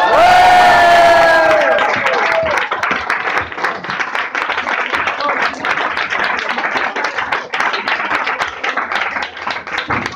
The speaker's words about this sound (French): vraiment un tonnerre d'applaudissements